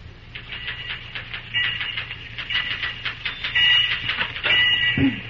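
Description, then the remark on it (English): Typewriter keys clack in a quick, steady run of sharp mechanical taps, with a few brief metallic rings and a low hum underneath, as Cary Graham types in the superintendent's office; no one speaks. “As our scene opens, we find Cary Graham busy at the typewriter in the superintendent's office.”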